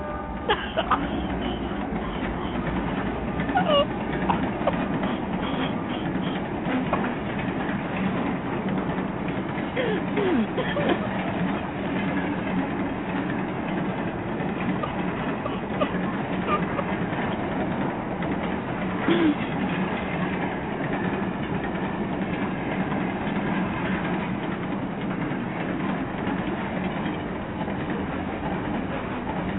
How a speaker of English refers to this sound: let's hear a diesel train real quick while we wait for Snellman to call in